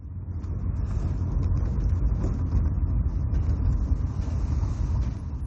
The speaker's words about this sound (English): The car slows down as it goes over a series of consecutive speed bumps. Cars in the opposing lane also slow down due to the speed bumps. The car speeds up again.